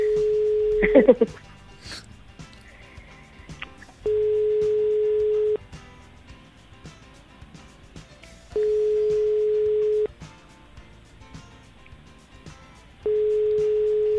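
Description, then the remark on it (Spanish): An outgoing call placed from a live radio broadcast rings through an earpiece: a steady electronic ringback tone sounds in long, evenly spaced pulses, about four times, with quiet pauses between and a brief clatter at the start. “seguro que es este el teléfono, ¿no?”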